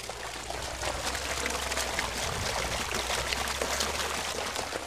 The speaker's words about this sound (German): ist dann halt in der Mitte dieses Wasserloch, nicht riesig, also 4-5 Meter Durchmesser, in der Mitte entspringt diese Quelle. Und ich gehe jetzt mal ganz dicht dran, dass man das auch wirklich hört.